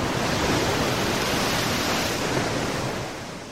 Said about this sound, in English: Suddenly, a big wave splashed over the boat.